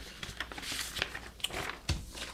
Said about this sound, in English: Just shuffling papers here.